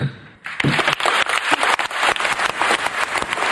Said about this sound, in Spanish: Así sonaron los aplausos en Dubái para celebrar el acuerdo final de la COP28, la Conferencia Internacional sobre el Clima.